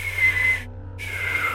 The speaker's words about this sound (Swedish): Det jag får höra oftast från vänner och familj när jag försöker vissla är att det låter som en läskig vind.